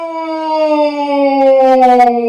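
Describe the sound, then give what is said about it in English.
A voice run through a Meatwad voice changer with the dial set to 44, giving a heavy echo effect, a loud sustained howl-like tone with rich harmonics, its pitch sliding slowly downward, with no clear words. “It's a lot of echoing.”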